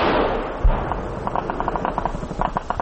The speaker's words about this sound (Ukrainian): Пішла відповідь. Горизонт запалав вогнями. Навколишні поля та лісопосадки заповнилися високими звуками вибухів снарядів. Розгорілася справжня локальна війна.